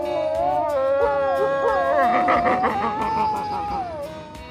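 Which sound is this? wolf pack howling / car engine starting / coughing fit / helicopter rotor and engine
wolf pack howling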